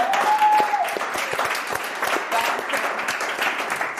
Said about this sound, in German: Applaus für Köln! Nur für heute!